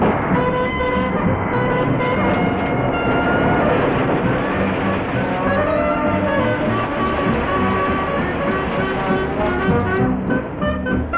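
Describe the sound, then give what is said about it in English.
A heavy SGME concrete spreader machine, fed concrete from side-tipping lorries and travelling on rails, runs steadily and loudly, its engine droning with shifting mechanical whines and rumbles throughout, with no voices. “Oh, this is an SGME spreader machine. Concrete is tipped from side tipping lorries into it, so it travels on rails and can move along the rails, and the hopper can move across the framework of the machine.”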